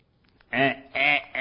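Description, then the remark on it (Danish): An alarm clock in a bedroom sounding with a duck's quack: three loud, nasal quacks in a row, each one buzzy and sustained, repeating at a steady rhythm. “Siger Vækkeåret i mit soveværelse.”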